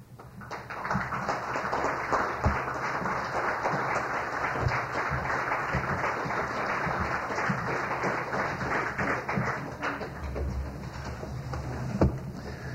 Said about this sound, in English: I heard all that clap. I'm sitting behind the wall. I'm thinking, wow, four people clap awfully loud. Thank you for that.